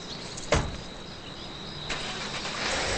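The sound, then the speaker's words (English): A car door thumps shut as someone gets into the car, followed by a second softer knock, then an engine cranks and catches, its steady rumble building toward the end. No one speaks. “Sylvia takes a long look over her shoulder before getting into her car”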